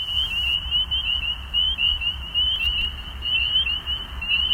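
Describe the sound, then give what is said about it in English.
A dense chorus of spring peepers calling continuously, high shrill peeps overlapping in a steady wall of sound, with a low rumbling background underneath and no voices. “That was the familiar song of spring peepers.”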